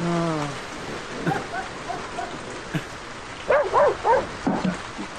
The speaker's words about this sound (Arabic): لا، فأنا يقظ، ألم ينقطع المطر إلى الآن؟